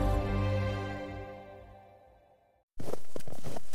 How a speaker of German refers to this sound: Schritte im Schnee. Schmerzhaft. Schwer.